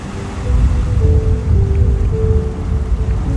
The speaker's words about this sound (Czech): Vysoká vlna se právě rozprskla těsně před tebou a slané kapky vody se dotkly tvé tváře.